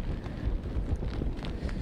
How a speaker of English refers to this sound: Heavy winds and intense rains here in Ocean City, Maryland is causing coastal flooding.